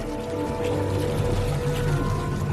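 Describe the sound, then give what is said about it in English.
A speedboat's engine drones steadily with a low, even hum while water rushes and hisses against the hull as it zooms out across a bay, continuous throughout, with no voices. “A speedboat zooms out across the bay.”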